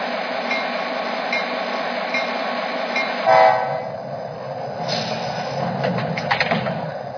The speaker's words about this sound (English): station on track 1, train number P626, northbound to Mongolia Park.